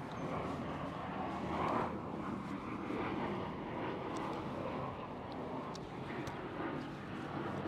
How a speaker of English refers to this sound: Another plane.